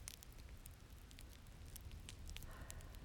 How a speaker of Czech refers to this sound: Okolí je útulný srub, ve kterém hoří krb.